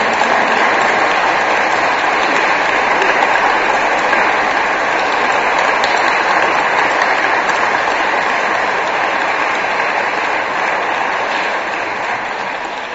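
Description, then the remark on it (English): An audience claps for the Lord, a dense, continuous wash of many hands applauding at full volume for about thirteen seconds, with no voices standing out. “Give the Lord a big clap for what he's doing today.”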